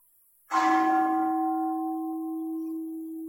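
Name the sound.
bell ringing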